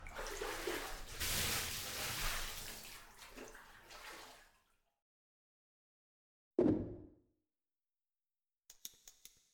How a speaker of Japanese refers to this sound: でもまずは先に体を洗って差し上げます。